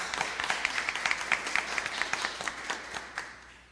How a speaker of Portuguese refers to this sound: gostaria que todos nós dessemos uma salva de palmas para ele, né, que ele merece.